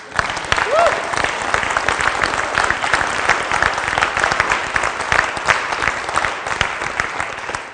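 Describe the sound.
Sustained audience applause, a dense steady patter of many hands clapping for several seconds at even loudness, with a brief voice or whoop rising through it early on.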